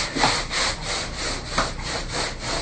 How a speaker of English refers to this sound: And then, when I do this, I slide the towel back and forth really fast across my back to get home.